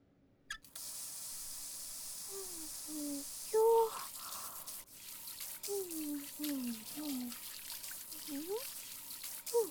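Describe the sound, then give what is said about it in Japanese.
Water pours steadily over a person's two hands to rinse and clean them, a continuous splashing hiss for several seconds, with brief wordless vocal sounds rising and falling underneath. “両手貸して洗い流すから。”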